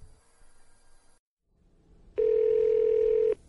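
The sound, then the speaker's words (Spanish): A steady electronic telephone tone of an incoming call on a cellphone at night sounds loud for about a second, a single sustained buzzing beep with harmonics, preceded by faint background noise and a brief silence. “Sin embargo, la noche del 24 de agosto, en pleno cierre del reportaje, ingresó una llamada telefónica.”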